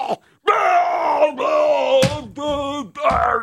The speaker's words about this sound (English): I appreciated the TV part of what it was. It's a cartoon character screaming.